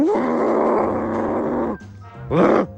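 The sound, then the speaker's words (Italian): A voice imitates a rutting deer's bellow: one long, loud, rough roar held for nearly two seconds, then a brief pause and a shorter, forceful second bellow, unaccompanied. “Cervo in calore, sentiamo.”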